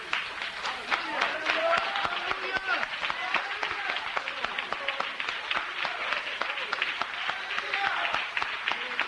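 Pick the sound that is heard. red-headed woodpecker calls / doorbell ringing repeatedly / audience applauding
audience applauding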